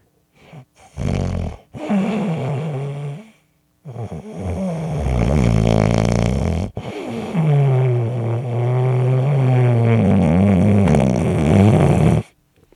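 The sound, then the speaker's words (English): Loud, rumbling snoring in several long drawn-out breaths, each a raspy, vibrating snore, separated by brief quiet pauses. “Do you snore?”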